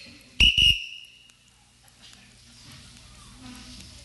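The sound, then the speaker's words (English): A loud, shrill whistle blows in two quick back-to-back bursts near the start, the signal for participants in a beer tasting to drink, then fades to quiet with faint background murmur. “Not until I blow the whistle.”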